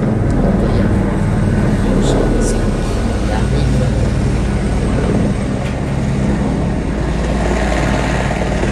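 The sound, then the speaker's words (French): A helicopter heading to the landing pad roars, its dense, rumbling engine and rotor drone steady and loud through the whole clip, with faint voices mixed in underneath. “C'est quoi ça? L'hélicoptère. Il va sur la piste.”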